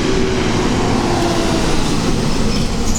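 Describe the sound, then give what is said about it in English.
A loud school bus rumbles by on a street, its heavy engine roar and road noise filling the whole moment with a steady, dense drone and no voices. “The world's loudest school bus.”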